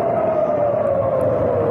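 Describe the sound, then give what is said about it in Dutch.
A loud air raid siren in Tel Aviv on a Saturday evening holds one steady wailing tone that drifts slightly lower in pitch, sounding continuously over a broad rumble of background noise with no voices. “Dit is de sirenes.”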